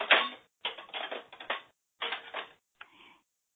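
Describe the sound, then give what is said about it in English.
Dishes clatter and clink in four uneven bursts, with brief gaps between them, the last one shorter and fainter. The sound is bright and rattly, and no one speaks. “I'm going to mute someone because we have some dishes somewhere.”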